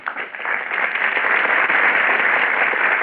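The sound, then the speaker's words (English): A burst of studio audience applause at the Gulf Theater stage greets the stars Paulette Goddard, Henry Fonda, Lloyd Nolan and Walter Brennan as they enter for Destry Rides Again. Dense, steady clapping from many hands swells quickly and holds at a strong, even level with no voices. “A burst of applause greets our stars as they enter the Gulf Theater stage.”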